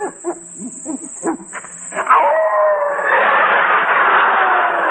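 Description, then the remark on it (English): A hound gives several short yips, then breaks into a long, loud, sustained howl that rises and holds, with no one talking. “Hey, Frankie, you sure this hound ain't part wolf?”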